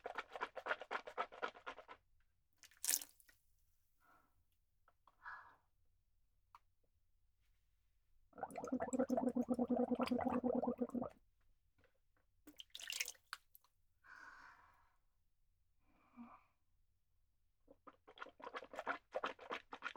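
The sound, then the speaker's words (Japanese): A person gargles water at a washroom sink for a few seconds, a steady bubbling rattle, with splashes and drips of water before and after, then spitting and running water. “ちょっと待って、うがいするね。”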